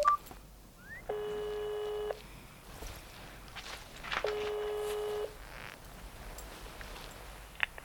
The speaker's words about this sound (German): Herrchen will ja nur mit dem Handy den lieben Onkel Doktor anrufen. Ich drücke auf die Lautsprechertaste. Dann könnt ihr mithören.